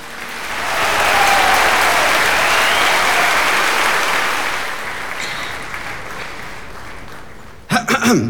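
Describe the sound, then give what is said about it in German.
An audience applauds loudly at a reading held for World Book Day and the Day of German Beer, a dense wash of clapping that swells quickly, holds for several seconds, then gradually thins out before a few sharper sounds at the very end. “Applaus!”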